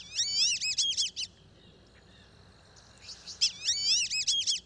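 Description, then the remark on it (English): Black-bellied whistling ducks calling in two bursts of shrill, wavering, multi-note whistles, each lasting about a second, separated by a short quiet pause with faint background hiss. “They're called black-bellied whistling ducks, and they're widespread in Central and South America.”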